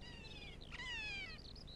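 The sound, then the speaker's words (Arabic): A harsh, drawn-out cry from a kea, the New Zealand mountain parrot, in alpine country below the snow line, wavering in pitch and almost cat-like, calling twice in quick succession over a low background rumble. “لقد أخذ اسمه من صرخته القاسية، إنه يحب النباتات الألبية القاسية وأي شيء آخر”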